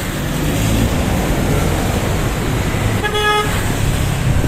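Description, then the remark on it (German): Loud, continuous street traffic in Manila rumbles throughout, and about two-thirds of the way in a car horn gives a short, bright honk above the roar. “Die Straßen in der Stadt sind laut. Ständig hupt jemand.”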